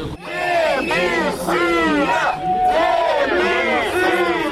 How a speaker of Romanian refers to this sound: Contestatarii l-au huiduit și au cerut demisia lui Chirtoacă.